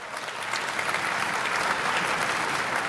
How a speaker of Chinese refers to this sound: 当联大主席纳塞尔宣布塞尔维亚外长耶雷米奇获得99票时，塞尔维亚席位上传来一片欢呼声。